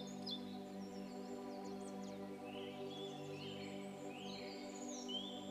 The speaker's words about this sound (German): Vogelgezwitscher dringt an dein Ohr. Was das wohl für ein Vogel ist, der da sein Lied anstimmt?